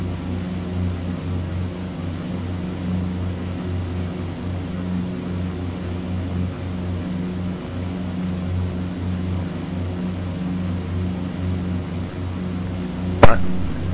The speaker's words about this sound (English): Now listen to the droning of the engines there for a moment.